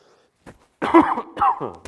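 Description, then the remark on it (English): A speaker coughs away from the microphone: a couple of harsh coughs in quick succession, preceded by a faint short throat sound, with no speech during the bursts. “You know, you try to cough and miss a microphone, and there's one.”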